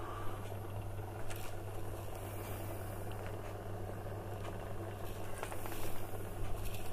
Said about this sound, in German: Und unsere Maultaschen werden gekocht. Das Wasser kocht auf. Wir müssen jetzt nur aufpassen, dass sobald wie es wirklich kocht, dass wir das dann entsprechend runterdrehen.